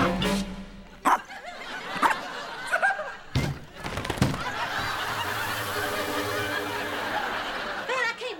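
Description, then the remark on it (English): A small dog yaps several times in sharp, irregular bursts, fairly loud, before a stretch of audience laughter and murmuring takes over. “Afraid of that little bitty dog.”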